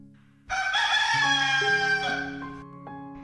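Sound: rooster crowing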